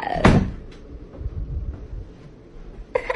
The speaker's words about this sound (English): Why'd you lock the door?